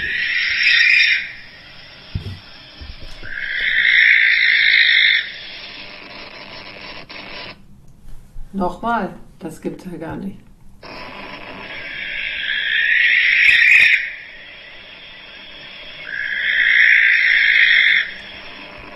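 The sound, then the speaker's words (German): Harsh, drawn-out owl screeches played back from a recording, four long hissing shrieks, two before and two after a brief stretch where a person speaks. They sound loud and raspy. “Ich wollte jetzt Eulen. mal den Schrei Ja, mach mal. abspielen.”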